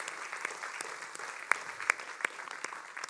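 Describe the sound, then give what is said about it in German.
A church audience claps for the children's church team in a steady, dense patter of applause, with a few sharper, louder claps standing out from the crowd. Many people, moderately loud, with no talking. “Ja, lass uns mal einen Applaus für die Kinderkirche geben da hinten.”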